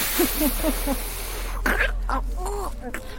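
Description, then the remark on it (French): A person blows out one hard, breathy puff of air, imitating the wolf blowing at a house while telling a children's story, between short repeated vocal sounds and murmured voices. “Loup Il souffla un grand. Encore. Plus fort. Encore.”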